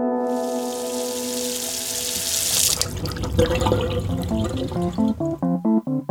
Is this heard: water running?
yes